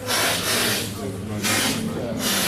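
Loud, airy slurping of coffee from a spoon during a coffee tasting, coming in about three hissing bursts of sucked-in air with short pauses between, over a low steady background murmur.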